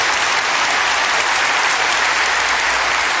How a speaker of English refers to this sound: Being a Christian, I'm going to wait while you applaud for the Lord. Would you do that?